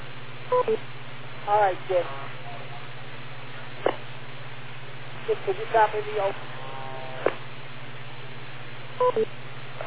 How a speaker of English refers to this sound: Wait for the beep